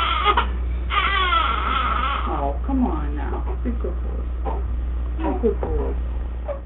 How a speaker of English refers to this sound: After the greetings, Sagan decided to include audio clips of sounds from Earth. These included sounds like a crying baby being comforted by its mother.